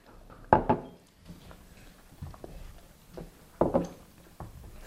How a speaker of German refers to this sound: Und nachher herrscht Ruhe am Tisch. Lange Ruhe, ich habe es gemessen. 2 Minuten lang klimpernd Nutella, Gläser und Besteck.